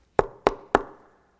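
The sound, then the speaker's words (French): Three sharp knocks on a door, evenly spaced in a quick, steady rhythm, clear, each with a short resonant ring fading after the last one. “Trois coups à la porte.”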